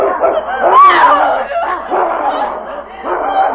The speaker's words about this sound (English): But at that moment, another gray form sprang from the darkness and rolled in a snarling heap with a huge wolf.